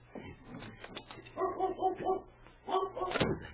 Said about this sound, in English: It's a dog. Back here somewhere. Hey, the woodshed.